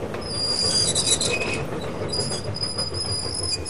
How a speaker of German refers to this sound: August 1963 ist der königliche Postzug auf dem Weg von Glasgow nach London. Die Täter manipulieren Signale und bringen den Zug auf einer entlegenen Stelle zum Stehen.